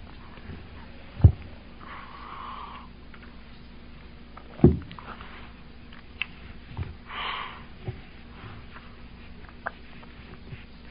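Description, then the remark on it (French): A few short, congested nasal sniffs from a person with sinusitis, fairly quiet, spaced several seconds apart, with a couple of sharp low knocks in between and no one speaking. “Excusez si je renifle comme un mufle.”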